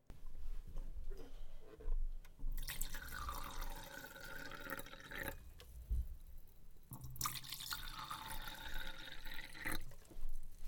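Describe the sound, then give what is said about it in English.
Liquid pours into glasses twice in a row, each a steady splashing fill of a few seconds, fairly loud, with no talking. “Please have a drink with me, before I get too embarrassed and make a fool of myself even further.”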